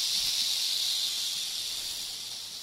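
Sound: snake hissing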